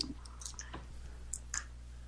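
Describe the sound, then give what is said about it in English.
Dice rattle and tumble across a tabletop for a first aid roll in a game, a short run of sharp clicks and light clatters spread over about two seconds, quiet and with no one talking. “Scrounging for dice.”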